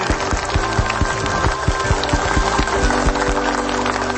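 A crowd applauds with dense, steady clapping that holds at an even level for a few seconds, fairly loud, with no voices over it.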